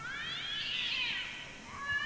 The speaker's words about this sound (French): D'ailleurs, ce cri que vous venez d'entendre dans la nuit et qui vous a fait sursauter ressemblait effectivement au feulement d'un chat. Mais si c'est le cas, c'est vraiment un gros chat. Un très gros chat, voire même peut-être un lynx